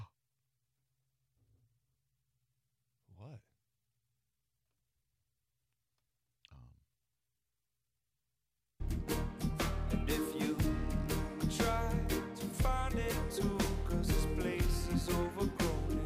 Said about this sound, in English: I will say, sometimes I feel like your gasp set me up for something that then ends up not being as big, but that was on brand. Your gasp actually could have been louder. Try it again.